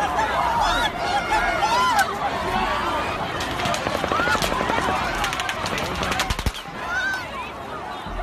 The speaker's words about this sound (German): Die Festivalbesucher wissen nicht genau, woher die Schüsse kommen und wie viele Schützen es gibt. Minutenlang geht das so weiter.